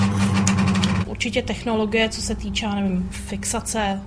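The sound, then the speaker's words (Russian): A sewing machine in a tailoring salon hums with a fast, steady mechanical rattle, running alone for a moment before a voice begins talking over its continuing drone. “Работу существенно ускорило появление новых швейных машин.”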